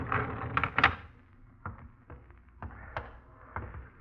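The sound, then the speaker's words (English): A door is opened and shut, with a burst of clattering thumps early on followed by several scattered, moderately loud clunks and knocks. No one speaks. “Get the door.”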